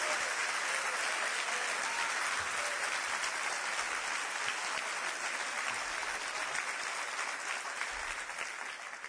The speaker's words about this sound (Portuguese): E quando vocês aplaudirem o Senhor, aplaudam mesmo, mas com vontade.